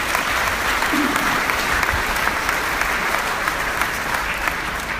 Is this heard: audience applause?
yes